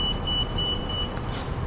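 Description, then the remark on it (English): A bus kneels, lowering itself so it is easier to step on, with a steady high beeping over a deep idling engine rumble, then a short burst of hissing air spurting out near the end. No one speaks. “I guess that's that little thing where the bus crawls down, so it's easier to step on and stuff.”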